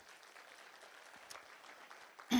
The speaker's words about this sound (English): Weren't they great this morning? So, I just, yes, you can applaud them because they were really good.